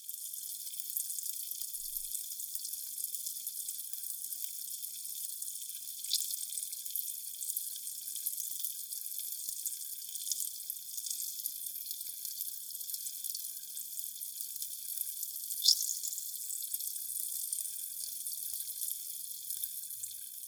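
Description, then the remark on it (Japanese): Dense, steady fizzing of carbonated foam bubbles scooped up by hand and held right by the ear, a crisp high crackle with occasional sharper pops, continuing for the whole stretch with no talking. “耳元でも炭酸泡の音聞きたいかにゃ。”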